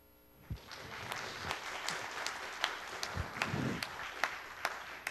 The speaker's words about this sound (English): If he's ever done anything for you, why don't you give him a hand clap of praise?